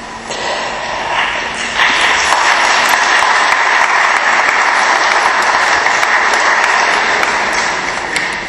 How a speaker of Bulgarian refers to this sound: Аплодисменти.